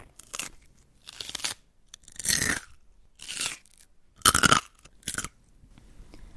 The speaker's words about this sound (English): Fracture events take place when a crispy or crunchy food is bitten and chewed. When an initial bite is taken, the structure is ruptured and a crack sound is produced simultaneously as the force drops.